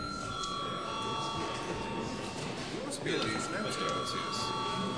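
A parliament chamber bell rings without pause for the whole stretch, a steady, high, buzzing tone, while a low murmur of voices continues underneath.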